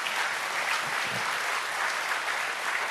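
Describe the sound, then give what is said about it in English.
An audience applauding after being invited to clap, a steady wash of clapping hands that holds at an even level for a few seconds with no voices on top. “I know 8 people really wanted to clap and the rest of you just went along with it, but that's okay.”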